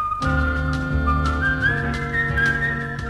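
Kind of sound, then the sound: human body sound, whistled tune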